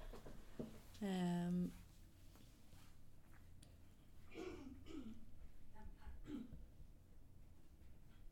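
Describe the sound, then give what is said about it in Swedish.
A person clears their throat in one loud, rough burst, followed by a few fainter coughing and throat-clearing sounds, over a quiet background. “Ursäkta mig, jag måste bara gå ut och hosta lite.”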